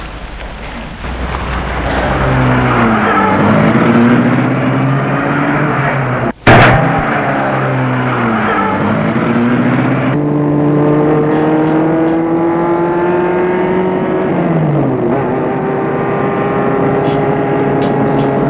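The driver starts a black car, and its engine rumbles, revving and shifting as the car pulls away and keeps driving, its steady drone rising and falling through gear changes. No one speaks.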